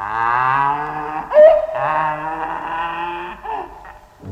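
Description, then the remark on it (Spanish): A donkey brays loudly: a long, strained, droning call, a brief rasping catch in the middle, then another drawn-out harsh bray, with no talking. “lo destinó a la escuela de asnos para que allí enseñara a rebuznar a los pequeños”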